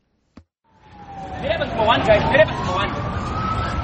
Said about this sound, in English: Sirens wailed Wednesday as police tried to disperse supporters of the Movement for Democratic Change as they waited to hear an address by party leader Nelson Chamisa.